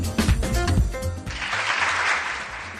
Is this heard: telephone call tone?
no